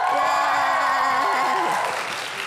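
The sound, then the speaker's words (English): A loud crowd of Freeman High School students cheers and whoops before a live audience at the Virginia State Finals of the We the People competition, with high shouting voices blending into a dense roar that holds steady for a couple of seconds before easing slightly. “Now see, that high school knows how to cheer.”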